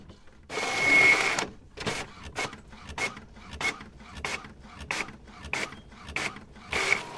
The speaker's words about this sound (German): Und drucken. Gerade hat sie eine Namensliste gedruckt.